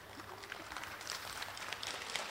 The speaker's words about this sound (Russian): Кто-то, да? Где-то хлопают, а кому хлопают?